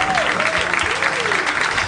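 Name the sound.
crowd applause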